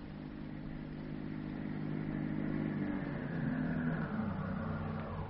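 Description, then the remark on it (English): A car engine starts at a ranch and runs with a steady low rumble, its pitch shifting upward partway through as it revs. The engine sounds alone, with no talking. “A tense couple of hours pass, and then they hear an automobile start from the ranch.”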